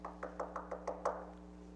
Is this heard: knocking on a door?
yes